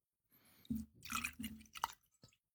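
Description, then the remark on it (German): Appleton Estate Aged 8 Years Jamaican rum glugs from a bottle into a glass in a short, uneven run of wet splashes and gurgles, ending with a faint tinkle, with no voices. “Es kommt Appleton Estate Aged 8 Years Jamaika rum ins Glas.”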